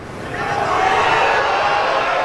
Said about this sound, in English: Listen to the crowd on this shot. This to pull even with Scott for second.